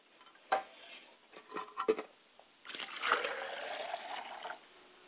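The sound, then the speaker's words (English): Water is poured into a glass as an offering to a father's spirit: a few short splashy gurgles, then a steady pour lasting about two seconds before stopping. Fairly quiet, with no talking. “As we pour a glass of water to my Father's spirit, I say, Ashe.”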